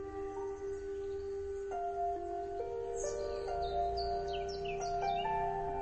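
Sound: birds chirping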